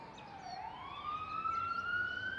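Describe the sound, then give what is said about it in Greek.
A police car siren, switched on by police officers, wails, its tone dipping briefly then sweeping upward and holding high, steady against faint background noise, with no one talking. “Βάλαμε τη σιρήνα. Στο άκουσμα της σιρήνας βγήκε η γυναίκα.”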